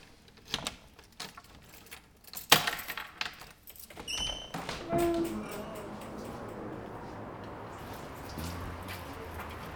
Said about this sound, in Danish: Så låser jeg altid op ud til skolegårdene først her.